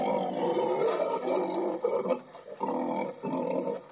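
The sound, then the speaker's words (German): A pig named Einstein, played from a cassette tape in a recorder, grunts and snorts in a steady run of low, rough, throaty bursts, with short pauses between them and no one talking. “Kann das Schwein auch ganze Sätze formulieren?”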